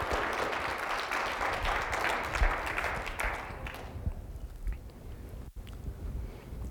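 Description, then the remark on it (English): An audience claps together as a faith clap offering to the Lord, a dense, steady burst of applause that holds for several seconds, then thins out and fades to a low murmur. “Let's give a faith clap offering to the Lord right now.”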